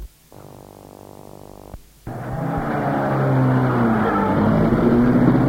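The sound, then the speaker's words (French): A car engine cranks with a steady hum, pauses briefly, then roars to life and revs higher as the car pulls away fast and loud, with no talking. “il met la voiture et démarre en trompe.”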